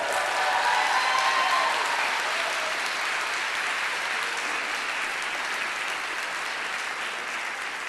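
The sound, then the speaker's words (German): An audience claps steadily for the Sailor Moon show group Tanze nicht synchron, a dense wash of many hands applauding that stays loud throughout and eases off only slightly toward the end. “Nochmal einen ganz super riesengroßen Applaus, bitte.”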